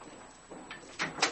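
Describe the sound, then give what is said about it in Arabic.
A damaged door is forced open with a few rough scrapes and clunks, the last two louder and sharper, with no one speaking. “في الباب. الباب كسر.”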